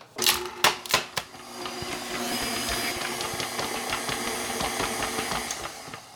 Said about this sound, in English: I'm going to put them through my food mill to see if I can get some juice out of them. So I've added some pomegranate seeds to the food mill, and let's see if the food mill will work